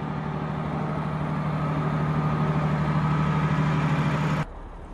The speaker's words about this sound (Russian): С сугробами пытаются справиться снегоуборочные машины.